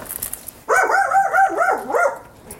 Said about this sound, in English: That dog there, that's barking, he's barking because he's doing his job. He's barking because he's a sentient being.